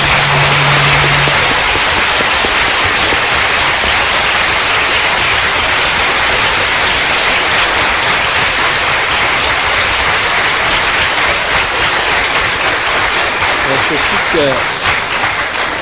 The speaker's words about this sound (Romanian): Am aplaudat și eu vă aplaud pe dumneavoastră pentru că sunteți aici, vă aplaud pentru că v-am văzut așa niște fețe frumoase.